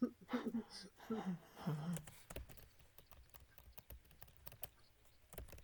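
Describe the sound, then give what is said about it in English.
A voice murmurs briefly at the start, then rapid typing on a Framework Laptop 16 keyboard takes over: quick, irregular clicks and taps, fairly quiet and continuing to the end. “Okay, I just did left brace, server right brace.”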